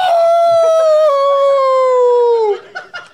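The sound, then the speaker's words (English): A person howls like a wolf in one long, loud, steady note that slowly falls in pitch for about two and a half seconds, then breaks off into a few short, softer voice sounds. “But then he says, the punchline is a howl.”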